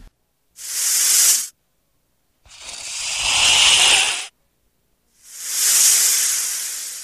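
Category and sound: animal, snake hissing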